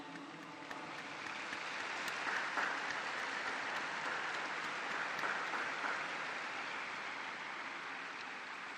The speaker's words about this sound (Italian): Un applauso alle nuove beate.